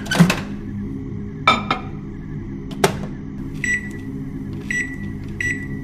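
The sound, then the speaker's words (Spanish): A microwave oven in a home kitchen hums steadily as it heats previously prepared food, with a few sharp clicks and clunks early on, then three short electronic beeps near the end. Clear, no talking. “Ella caminó hacia la cocina, abrió el refri, sacó algo que ya tenía preparado y lo metió al microondas.”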